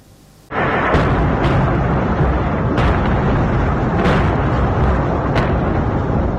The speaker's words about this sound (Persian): موشک باران بندر لازقیه در غرب سوریه بامداد سه‌شنبه. دیدبان حقوق بشر سوریه میگوید که این حمله میدان کانتینرها را هدف قرار داده. بنابر این گزارش این موشک ها توسط نیروهای اسرائیلی از دریای مدیترانه شلیک شده بودند.